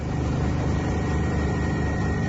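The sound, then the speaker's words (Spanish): A Guardia Civil helicopter searching for a missing resident of Boiro who went out fishing gives a steady, loud engine roar with a fast, rhythmic low thudding from the rotor, holding constant throughout with no voices. “En este caso del helicóptero de la Guardia Civil, que esta mañana se ha incorporado a las tareas de búsqueda del vecino de Boiro, que lleva desaparecido desde que el lunes a última hora saliera a pescar.”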